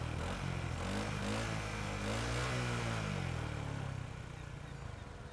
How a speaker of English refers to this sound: You have to step over the agent's body to get to the moped and like actually get onto it as the four of you zoom off again.